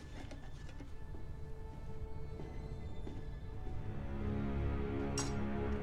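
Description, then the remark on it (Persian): A soldered tin can is handled, giving off scattered metallic clinks and light scraping taps over a steady low rumble, with a brighter ring near the end. “چه قوطی حلبی با نمکی. معلومه که مراقبش بودی. لحیم شده.”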